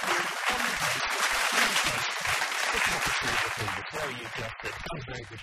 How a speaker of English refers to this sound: Some applause, please